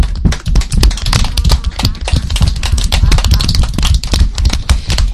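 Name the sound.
applause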